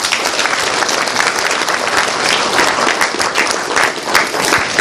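A church audience applauds four people at a ceremony steadily for about five seconds, a dense, loud wash of many hands clapping with sharp individual claps popping through, no voices over it.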